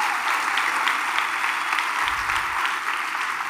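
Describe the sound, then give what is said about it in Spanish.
A church audience applauding God during a sermon, many hands clapping in a dense, continuous wash of sharp claps that holds at an even loudness throughout, with no voices standing out. “Alguien tiene que darle un aplauso a ese Dios.”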